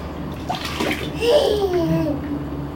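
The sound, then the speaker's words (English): Water pours steadily into a container for a few seconds, the splashing stream taking on a gliding, hollow tone as it fills, with faint voices in the background. “pouring water to container.”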